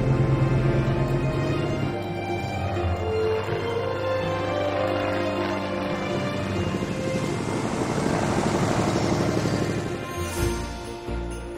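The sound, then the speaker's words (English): A small propeller airplane landing, its loud engine droning steadily with layered harmonic hum, then briefly dipping and shifting tone near the end. “The plane lands and they travel by truck into the town.”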